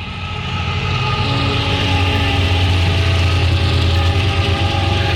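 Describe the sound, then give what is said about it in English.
A big freight train, apparently carrying liquefied natural gas, rumbles past in Ashland, Virginia: a loud, steady low drone of engine and rolling wagons holding constant for several seconds with no talking. “And yeah, big freight train. Freight train going by in Ashland, Virginia.”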